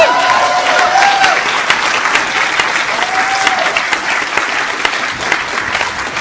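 Loud, sustained audience applause for Iraqi journalist Muntadhar al-Zaidi, a dense steady patter of many hands clapping that continues evenly for several seconds, with a few faint cheers or whistles mixed in.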